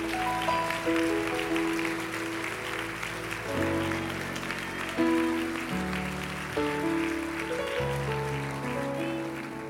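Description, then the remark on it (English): An audience claps their hands unto the Lord, a steady, dense, continuous patter of many hands mixed with sustained organ or keyboard chords that shift every couple of seconds; no one speaks. “Can you clap your hands unto the Lord one more time?”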